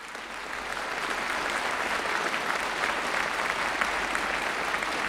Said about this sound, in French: Rebelote, des applaudissements dithyrambiques.